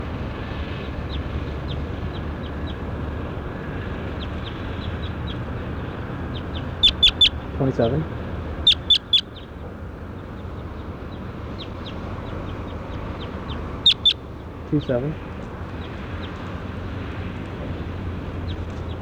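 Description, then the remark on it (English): Sharp calls from a bird identified as number 27 come in three short clusters, each a quick run of harsh notes, standing out clearly over a steady background hiss and low rumble. “That was bird 27 right there.”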